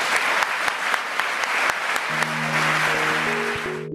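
An audience at an LSE event applauds steadily with dense, overlapping claps throughout, and a low sustained musical tone fades in over the final couple of seconds as the clapping tapers.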